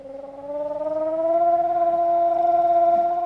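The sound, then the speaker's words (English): A thirteen-year-old Israeli boy, hands cupped over his mouth, imitates the sirens that warn of incoming rockets from Gaza, a loud, steady wail that rises slightly in pitch and then holds, sustained for several seconds with no other talk. “cups his hands over his mouth and does a spot-on imitation of the sirens that warn of incoming rockets from Gaza.”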